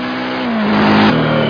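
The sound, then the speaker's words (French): A new wooden trail motorcycle's engine accelerating extremely hard, a loud, buzzing roar that grows louder, its pitch dipping briefly as if shifting gears, with no voices. “Voilà, donc là je suis au ralenti, j'ai tachymètre, compte-tour, bon, toute l'instrumentation traditionnelle, des rétros sur des tiges, et voilà ce qui fait que je pense qu'on est sur une nouvelle moto, c'est l'accélération.”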